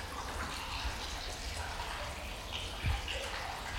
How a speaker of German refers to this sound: Am alten Zierwasserbecken sprudelt noch heute das Wasser aus einem Springbrunnen. Der Hahn ist ein Amor, der auf dem Delfin reitet.